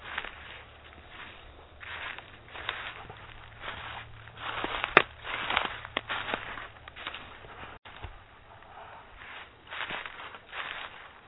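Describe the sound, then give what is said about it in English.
Steady footsteps crunch along a forest path at night as someone treks back towards the house, each step a soft, scuffing burst in an even walking rhythm, with a faint low hum underneath and no one speaking. “And I think I'll start trekking back towards the house again.”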